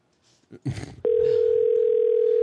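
A brief voice-like burst, then a steady, loud phone tone starts abruptly and holds unbroken to the end, the ringback heard while a call waits to be answered.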